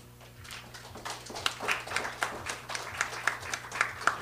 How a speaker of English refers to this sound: Thank you, and it's okay to clap. Poetry likes clapping. It's sort of like a sorbet between poems, so that's fine.